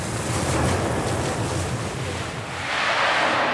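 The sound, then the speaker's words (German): Cleaning noises rising from flooded cellars in Catarroja, near Valencia, Spain, nearly two weeks after the flood, as residents scrub, rinse and pump: a steady, loud rush of hissing, splashing water, like hosing or pumping, continuing throughout and brightening toward the end, with no voices. “Aus Kellern dringen Putzgeräusche herauf.”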